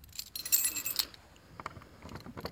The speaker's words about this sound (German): Wir stehen vor zwei großen Kutscheneinfahrten, dazwischen ein rundbogiger Kellereingang. müsste ich schauen, ob mein Schlüssel passt. Dann könnte man einen Blick reinwerfen. Also der geht schon mal nicht. Ja, leider.